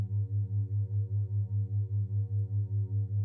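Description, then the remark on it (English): A soft, steady low drone of solfeggio tones with a binaural beat, throbbing in a quick, even pulse about four times a second, alone with no voices. “As you listen to my voice, the gentle background tones of a solfeggio frequency, combined with the binaural beat softly playing beneath, you'll find yourself sinking into an even deeper state of calm and openness.”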